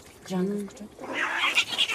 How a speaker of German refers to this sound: Vor 1000 Jahren ließen unsere Urgroßväter zwei Katzen gegeneinander kämpfen.